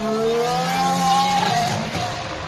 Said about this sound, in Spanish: Así suena el coche de Carlos Sainz, el McLaren.